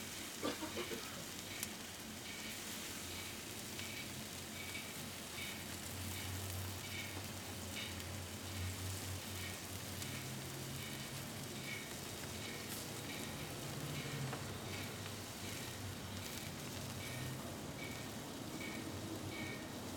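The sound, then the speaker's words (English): Ribs and pork sizzle on a grill in a steady, dense crackling hiss that holds at an even level throughout, with a faint low hum running underneath and no voices. “Trying not to catch the end of my microphone on fire. Some ribs and pork on there.”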